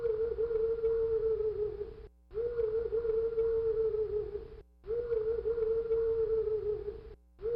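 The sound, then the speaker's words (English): An owl gives a low, steady moaning call three times. Each drawn-out note lasts about two seconds at an even pitch, with only brief pauses between them and no talking. “But listen to this owl sound that I found.”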